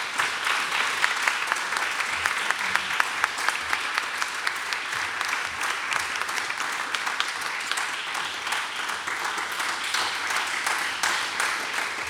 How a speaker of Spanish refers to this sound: le pedimos un gran aplauso para